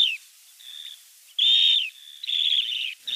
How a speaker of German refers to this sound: Da haben wir uns auch einen Vogel ausgesucht, der ein Zugvogel ist, der zum Birdwatch-Wochenende gut passt, der da gut zu sehen ist, wenn ihr an der Küste seid. Besonders, wenn ihr an der Küste seid.